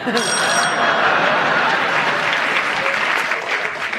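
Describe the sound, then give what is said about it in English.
Sustained audience applause on the panel game Just a Minute, a dense steady wash of many hands clapping at even loudness for several seconds, with a faint high ringing tone at the start. “I think also of the strength of the applause.”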